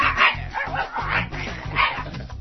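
A person imitates a distant, angry dog, producing a steady run of muffled, growling barks with a narrow, phone-like tone and no other voices.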